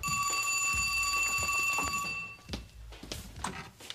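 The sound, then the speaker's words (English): A telephone rings with a steady, bright, high-pitched tone for about two seconds, then cuts off, followed by a few soft clunks and rustling. “Then I sit down at the table and read my favorite magazine until the phone rings.”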